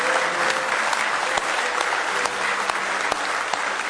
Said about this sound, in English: Give Him a big hand clap of praise in the house of the Lord today.